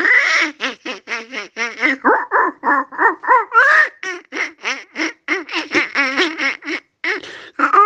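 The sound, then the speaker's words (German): A human voice imitates Disney's Donald Duck, spitting out a rapid, continuous stream of buzzy, nasal quacking syllables, loud, a mix of quacking and speaking like garbled duck-speech chattering for several seconds. “Das ist so eine Mischung aus Quaken und Sprechen.”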